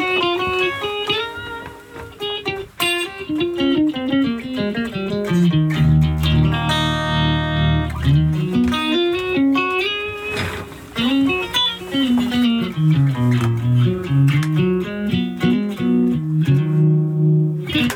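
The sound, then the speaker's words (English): A bass guitar played through the Alien Wave amp effect, from an experimental bass folder, plays a wandering melodic line through a warped, wobbling synth-like effect, with a buzzy, distorted tone and sliding pitch, loud and continuous with no talking. “So this is now, Alex has got his bass, so he's going to be playing Alien Wave bass.”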